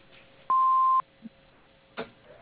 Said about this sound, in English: Hello, we are not available now. Please leave your name and phone number after the beep. We will return your call.